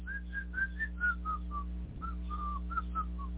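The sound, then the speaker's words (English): A person whistles a short, wandering tune of about a dozen quick notes, moderately loud, with a brief pause midway and a steady low hum underneath. “Oh, I think I'll just whistle here.”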